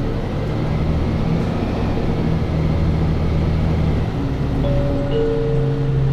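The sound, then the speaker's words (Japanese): A bus pulls away from a stop after a Japanese announcement that it is departing, with a steady, loud engine drone, low rumbling and rising tonal whine; the next stop announced is Matsue. No talking. “発車します。お捕まりください。”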